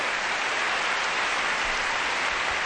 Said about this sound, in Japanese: 今日の仲間たちです。ピアニスト倉田信夫にどうぞ盛大な拍手。